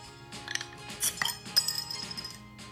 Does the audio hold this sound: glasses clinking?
yes